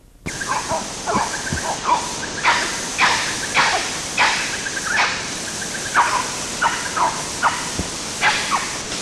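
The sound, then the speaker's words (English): Two or three red colobus monkeys give a rapid, irregular run of sharp hissing chiss calls mixed with nasal nyaw barks, recorded about 30 to 35 meters away in July 1983, over a steady background hiss of forest ambience. “Same thing, a mixture of chiss and nyaw barks from two or three red colobus of the RUL group.”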